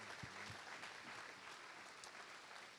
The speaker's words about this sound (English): That's worth celebrating. So one more round of applause before we invite our speakers up.